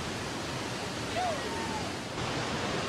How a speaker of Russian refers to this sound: Однако покорить бушующий водопад оказалось нелегко.